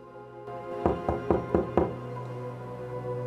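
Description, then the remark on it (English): Five quick, evenly spaced knocks on a door, each a firm, hollow thud, rapping out in a steady rhythm over a faint steady hum, with no voices. “She's wearing a dressing gown, and she sighs as she goes to answer the door.”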